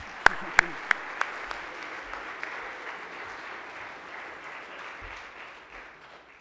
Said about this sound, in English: and we welcome him with the warm FPU College Hour hand clap.